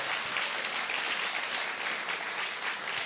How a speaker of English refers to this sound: Why don't we give them just a little round of applause, just a show of thanks, our young people.